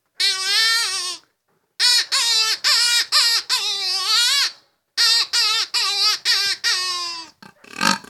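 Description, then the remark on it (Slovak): A hare squeal imitated by a contestant at a game-calling competition: loud, high-pitched, wavering cries in a quick series of about a dozen bursts, some drawn out, ending with a harsher, rasping squeal. “Vrešťanie zajaca a imitovanie hlasu diviačej zvery patria medzi divácky atraktívne.”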